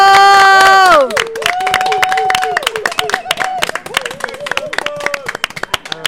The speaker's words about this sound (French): Maintenant qu'ils sont là tous les deux, on peut également tous les applaudir depuis la table